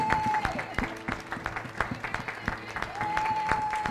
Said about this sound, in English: So if everyone would stand, we're going to just give him a round of applause and just celebrate the 70th birthday.